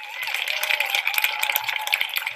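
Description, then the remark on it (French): Steady, dense clapping from many people applauding healthcare workers in the United Kingdom keeps up without a break, with a faint wash of voices and a sustained tone running underneath the applause. “Des applaudissements pour les soignants en lieu et place de budget d'urgence pour les services publics.”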